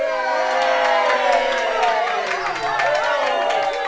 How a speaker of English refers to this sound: when something strange happened. The crowd started to cheer.